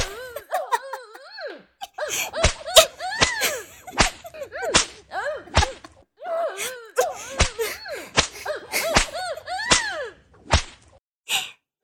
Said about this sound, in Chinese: 也是个变态啊，竟然被鞭子抽，这还能抽到高潮。